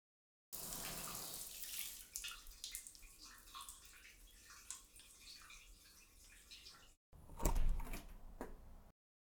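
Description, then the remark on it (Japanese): Shower water runs in a steady hiss for several seconds as someone takes a shower, stops briefly, then returns with a louder, splashier burst before cutting off. No one speaks. “はい、では、シャワー行ってきます。”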